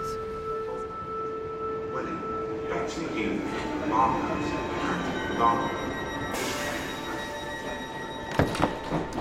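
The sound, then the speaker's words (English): A passenger train from London Bridge toward Canterbury rolls along the rails with a steady rumble and whining motor hum, a burst of rushing noise midway and a few sharp clunks near the end, muffled voices underneath, recorded in October 2020. “So we've set off on the train from London Bridge.”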